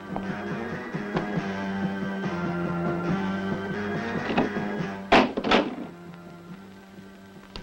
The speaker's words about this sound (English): Close the door.